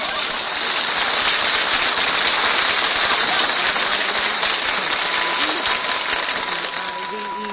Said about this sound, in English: Hey, Fred, turn that vacuum cleaner off till I finish my breakfast, will you? This is the third time you've vacuumed my Wheaties right out of the syrup here.